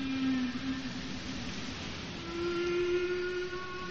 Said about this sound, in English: His groundbreaking New Age album… featured the sounds of endangered animal species, such as the humpback whale.